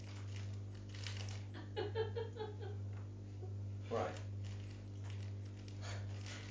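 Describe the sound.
A crumpled plastic grab bag packet is handled and smoothed out in short rustling bursts to straighten its creases, over a steady low electrical hum, with a voice briefly speaking.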